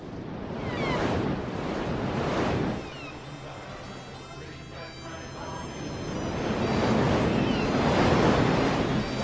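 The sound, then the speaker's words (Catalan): Ocean waves of the seas of Scotland surge and break in broad swells, rising loud near the start, easing midway, then building again, with steady wind rushing over the water throughout. No voices. “Des dels mars d'Escòcia”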